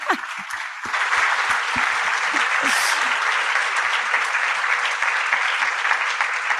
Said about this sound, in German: Das nehmen wir gerne mit. Vielen lieben Dank. Dein Applaus.